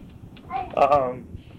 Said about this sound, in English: Is that a cute cat? Is that a cute cat?